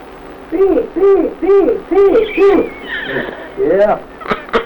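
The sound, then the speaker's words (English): A person bellows a hog call to call hogs to feed: five loud, sing-song whooping shouts in a quick, steady rhythm, each swooping up and down in pitch, then a softer stretch and one more call. “Give me a good hog call now.”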